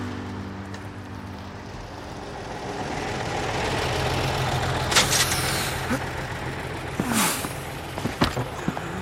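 A school bus rumbles with a low idling engine, then two sharp hisses of air brakes as it pulls to a stop, with faint clunks near the end.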